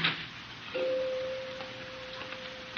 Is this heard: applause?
no